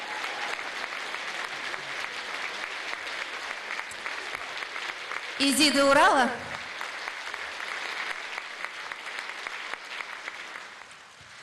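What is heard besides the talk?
audience applause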